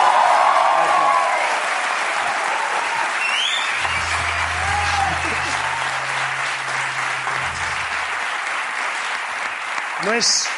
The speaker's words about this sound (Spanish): Pero el aplauso más grande no debería ser para mí, sino para la gente que ha venido hoy a ver el programa, porque hoy...